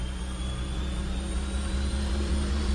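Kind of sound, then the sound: sound effect, jet engine roar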